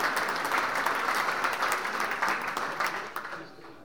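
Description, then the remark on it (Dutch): A crowd claps steadily and loudly for the student team Team Vast, which is going into business: a dense wash of many hands with scattered sharper claps, tapering off near the end. “Groot applaus.”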